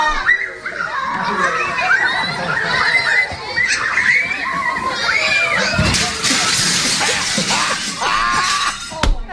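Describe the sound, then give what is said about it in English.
A man in a mascot costume runs full speed into a gigantic glass window at a children's party; glass shatters loudly in a sudden crash amid a crowd of children's excited voices, with kids shouting and reacting around the impact, the noisy chatter continuing throughout. “He just goes flying and then crashes through the window.”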